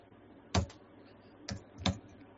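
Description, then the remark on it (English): Three hard, thumping keystrokes on a computer keyboard, loud, spaced unevenly over a couple of seconds against a quiet background hum, with no talking. “Are you punching your keyboard? That was a very boom, boom sort of sound.”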